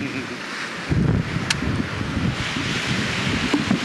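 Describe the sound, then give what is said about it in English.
Outdoor beach ambience on Waikiki Beach, Honolulu, Hawaii, during a morning walk on May 27, 1975: a steady hiss of wind and surf fills the background while gusts buffet the microphone with low, rumbling thumps, continuous and fairly loud throughout. “following is Srila Prabhupada's morning walk conversation in Honolulu, Hawaii, on May 27, 1975. On Waikiki Beach.”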